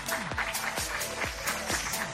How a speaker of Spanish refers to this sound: Un fuerte aplauso. Un fuerte aplauso.